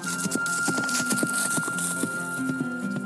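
Horse hooves clip-clop in a steady, brisk rhythm on a hard surface, each strike crisp, over a faint constant hum in the background.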